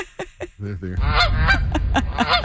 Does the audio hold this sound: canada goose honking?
yes